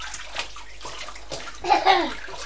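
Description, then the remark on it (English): Water sloshes and splashes in a full bathtub as a child splashes around too much and makes waves, with bursts of watery movement, followed by a brief high-pitched child's vocal sound near the end. “You're splashing around too much and making waves.”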